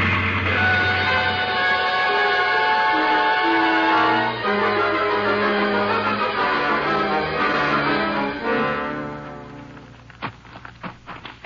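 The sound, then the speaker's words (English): A train engine straining up a hill labors with a loud, sustained droning roar full of layered tones that shift slowly in pitch, then eases off into a few sharp clicks at the end. “Now, there's the engine, Jase. Sure is a straining up that hill.”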